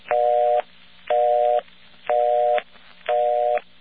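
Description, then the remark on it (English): A telephone busy signal from an old mechanical exchange: four evenly spaced tone bursts, each about half a second, with a slightly rough, buzzy texture and faint clicks marking the start and end of each beep. “That is a mechanical busy signal.”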